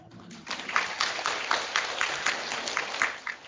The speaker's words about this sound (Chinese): 你知道你们在鼓掌，我被你们的掌声所麻木了。